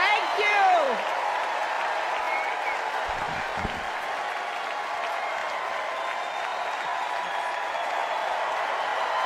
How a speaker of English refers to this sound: Warm ovation for Hillary Clinton in the bowl.